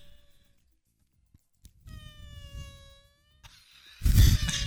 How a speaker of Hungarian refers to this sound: Alszol, fingik a szúnyog. Alszol, és elrepül, és visszajön, és elrepül, és vissza, és már lecsapnád, de közben alszol, de megint felébredsz.